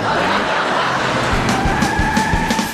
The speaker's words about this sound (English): Really? Which one? The muscle car.